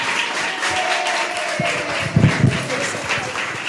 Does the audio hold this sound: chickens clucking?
no